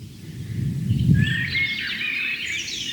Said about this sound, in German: Währenddessen genießt ihr die Amsel, das ganz zart unterlegt ist vom Rotkehlchen.